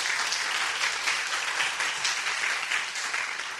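A church audience applauding together for the teachers of a children's summer Bible school, a dense, steady patter of many hands clapping at once that holds evenly throughout and tapers slightly at the end, with no talking over it.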